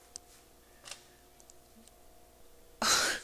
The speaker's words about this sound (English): I feel like that yawn was all the answer that I needed.